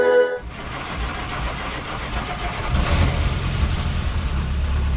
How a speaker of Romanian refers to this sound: După cum vedeți, pornește foarte repede. Este clasic cu motor 4 cilindri, 2200 centimetri cubi. Mașina are mecanica originală. Fabricat în 1943, Jeepul Willys pe care îl conduce